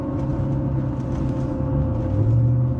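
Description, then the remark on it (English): A loud motorcycle engine idles and revs steadily, its deep rumbling drone holding throughout, swelling slightly toward the end, with no voices over it. “And that motorcycle's about ready to fuck everything up with the decimals he's putting off.”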